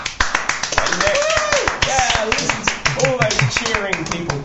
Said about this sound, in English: we're going to have to resort to clapping ourselves.